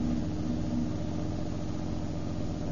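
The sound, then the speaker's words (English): A steady, low car engine rumbles at an even idle-like drone as the car pulls in, with no voices over it, holding a constant hum throughout. “There's a good place to pull in.”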